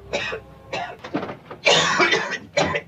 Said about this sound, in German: Dein Husten entwickelt sich. Muss noch mehr rauchen.